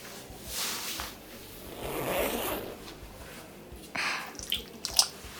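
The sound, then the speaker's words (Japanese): A trouser zipper being undone: a few raspy, scratchy zips in short bursts, followed by a couple of sharp little clicks at the end. No one speaks. “だからほら、お兄さんもズボンとパンツを脱ぐにゃ。”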